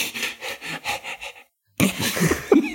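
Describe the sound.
Someone imitates a dog panting to show how dogs sweat: a quick, even run of about six breathy huffs, then a short pause before a rougher, noisier burst of breath sounds.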